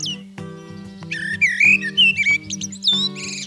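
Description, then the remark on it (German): A songbird sings a rapid run of varied, fluting whistled phrases, bright, over a low steady hum. “Das Lied eines Singvogels, wie zum Beispiel einer Amsel, besteht aus vielen kleinen Abschnitten.”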